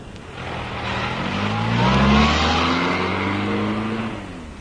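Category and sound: vehicle, car driving away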